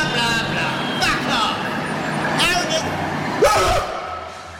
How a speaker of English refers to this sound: But I hear the sound of a van coming. Yeah? Out of the fucking way! It's my right of way! Oh, fucking school bus!